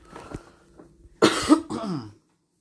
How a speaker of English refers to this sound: Gonna hear me cough a couple of times, and I'm gonna say sorry about that. My son got me sick. I'm recovering.